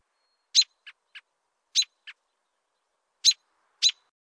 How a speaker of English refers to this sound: here are recordings of the birds mentioned in the article above. The American Robin.